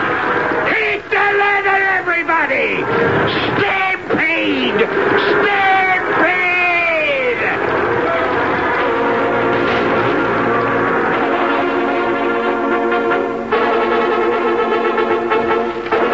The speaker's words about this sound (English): Stampede! There is no measure of a stampede, no rationale, no reason. The slightest sound, a sneeze, or the rattle of a cook pan is just as liable to set it off as a loud sound, like the screaming of a dude's frightened horse.